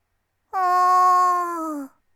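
A single drawn-out meow, voiced by a person imitating a cat: one clear, steady call lasting over a second, sagging slightly in pitch and fading at the end.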